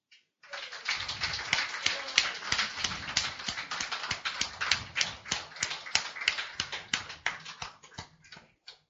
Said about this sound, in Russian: Вот аплодисментами мы провожали Леру, и сегодняшний вечер начнем также.